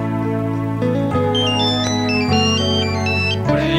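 A phone ringtone plays loudly, a continuous electronic melody of sustained, stepping tones that runs for several seconds with no voices over it.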